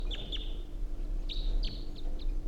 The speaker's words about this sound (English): I think there are two birds.